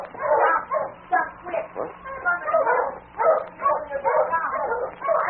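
A dog stranded out on a piece of ice on a river near Selkirk barks and whimpers in a steady run of short, urgent yelps and whines, loud, continuing without a break for several seconds.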